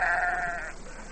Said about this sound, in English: Oh, grey stone. Grey slate. Grey soggy sheep. Nothing else for miles. And it's getting dark. Black as pitch it'll be up here. Oh, bloody North Wales.